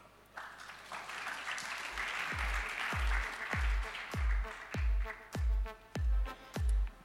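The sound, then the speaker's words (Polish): A crowd breaks into loud, sustained applause as a director of the Agencja Rozwoju Przemysłu (Industrial Development Agency) is invited onto the stage, and after a couple of seconds a steady, deep thumping beat pulses beneath the clapping. “I tak jak mówiliśmy... Brawa.”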